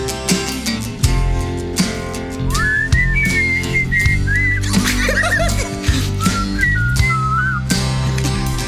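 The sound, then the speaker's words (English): Two people whistle a wavering, harmonized melody over a steady musical backing, the tune rising and sliding in short phrases, with a brief flurry of laughter-like chatter midway. “Can we do a harmonized whistling solo?”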